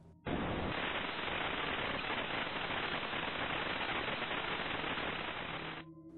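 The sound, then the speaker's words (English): A steady, loud hiss of static from a television just switched on with no signal, starting abruptly and holding evenly for several seconds before cutting out, with no voices. “I turned it on and there was static.”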